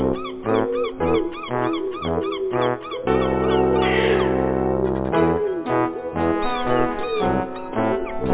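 Loud, rapid cat meows repeat in a rhythmic, almost musical pattern over a steady low thump, with a longer sustained stretch in the middle. No one speaks.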